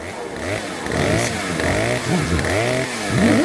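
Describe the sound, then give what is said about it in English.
A chainsaw runs loud indoors as a woman carries it, running in, its motor revving up and down in uneven surges, with the whining pitch climbing sharply near the end. No one speaks. “what are you doing running in here with that chainsaw?”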